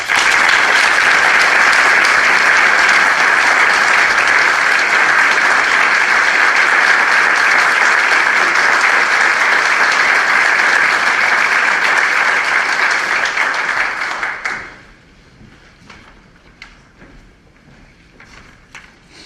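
Loud, sustained audience applause, a dense wash of clapping that holds steady for about fourteen seconds, then fades quickly to a few scattered claps.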